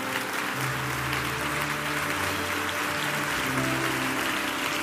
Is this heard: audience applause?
yes